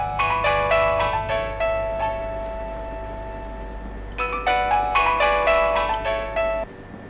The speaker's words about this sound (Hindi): कामयाब का फोन था? क्यों फोन नहीं उठा रहे उनका? सुबह से लगातार फोन कर रहे हैं।